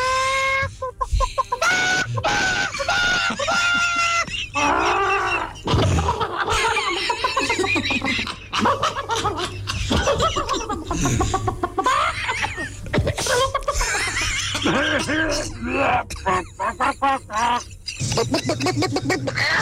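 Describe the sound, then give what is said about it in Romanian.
A hen coughs over and over, with short raspy sputters mixed into clucking, played on the Morning Glory show. The sounds are loud, and they keep going steadily for about twenty seconds. “Noi știm cum tușește o găină.”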